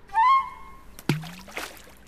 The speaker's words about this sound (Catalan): Podem seure aquí i tirar pedretes a l'aigua. Sí, començo jo.